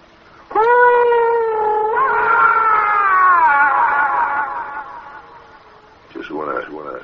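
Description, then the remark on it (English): A voice lets out a long, loud, sustained wail drenched in an echo effect, the sound smearing and slowly trailing off before a brief burst of speech at the end. “Echo, please.”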